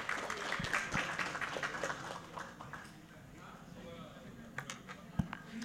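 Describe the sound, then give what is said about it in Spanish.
A crowd applauds children and young people who won medals for Paraguay, with dense, irregular clapping that holds steady at a moderate level, with sharper individual claps popping out near the end and faint voices murmuring underneath. “Así que muchísimas gracias una vez más y un fuerte aplauso para estos niños y jóvenes que nos han traído unas buenas, merecidas medallas a Paraguay.”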